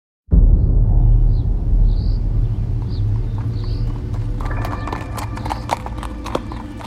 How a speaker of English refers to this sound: Horses' hooves clop faintly down a rough gravel road.